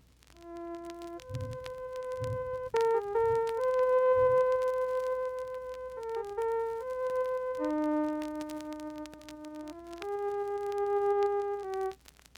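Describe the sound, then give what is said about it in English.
A melody of sustained synthesized tones played alone, each note held steadily before stepping to a new pitch, with a clean, electronic, organ-like timbre and a few soft low thumps early on. “Let us synthesize a series of tones to make a melody like this.”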